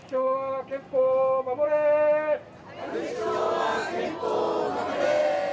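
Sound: demonstrators chanting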